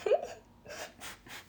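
A short throaty catch opens the moment, followed by three soft, evenly spaced swallowing gulps as someone drinks water, with no talking.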